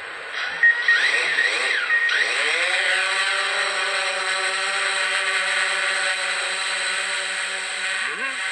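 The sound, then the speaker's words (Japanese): A small drone, about 30 cm square and developed at Shinshu University for forest surveys, takes off: its motors spin up with a rising, wavering whine, then settle into a steady high-pitched buzz that holds on continuously, fairly loud throughout. “しますってこの音でしょ？ドローンですか？”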